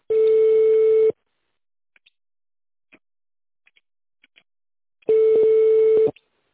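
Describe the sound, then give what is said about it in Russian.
A telephone busy signal: two loud, steady mid-pitched tone bursts about a second long, separated by a gap of several seconds with only faint clicks. “Please hold on for answer or call back later. The number is busy.”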